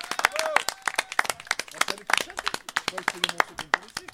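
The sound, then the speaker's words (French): An audience applauds at the start of a blind test at Sillon Lozé, a cultural café in Marvejols, with dense, irregular claps that rise and fall in loudness for about four seconds, while a few voices call out and murmur underneath. “Vous pouvez applaudir.”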